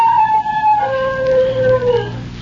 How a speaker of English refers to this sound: He howled.